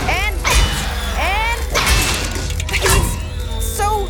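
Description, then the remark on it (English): Chairs being thrown, with repeated loud crashes and thuds of heavy objects hitting, with clattering impacts about once a second amid a busy, noisy background with squealing, warbling tones. “He's throwing chairs.”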